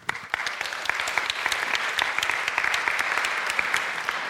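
A crowd claps steadily, many hands producing dense, continuous applause with sharp individual claps standing out, moderately loud and sustained throughout without any talking.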